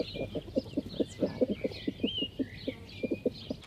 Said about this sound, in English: And when you throw any food in for him, he'll make a little chuckling sound, and that's calling the girls over for a feed.